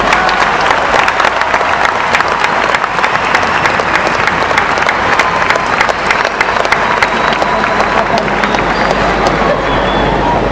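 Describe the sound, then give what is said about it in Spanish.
Sustained audience applause at an evening Jewish community celebration at the Luna Park, a dense, steady wash of many hands clapping at an even loudness, with a faint murmur of voices mixed in. “Entonces, me parece que merecemos un aplauso, merecemos realmente tener este orgullo esta noche.”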